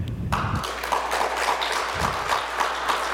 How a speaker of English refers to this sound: By applause only, no hissing or booing, please. Just how many folks think GDPR is a good thing?